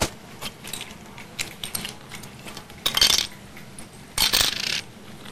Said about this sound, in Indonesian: Mereka lagi cuci piring ya.